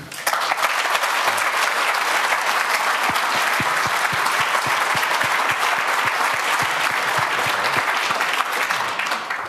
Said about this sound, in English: And let's give a first round of applause.